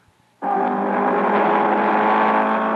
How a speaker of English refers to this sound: Le Mans, France, June 1967. You're listening to the car that won, the Ford Mark IV.